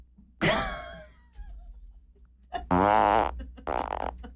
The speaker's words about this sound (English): Dutch box? Oh, is that where you fart in a box?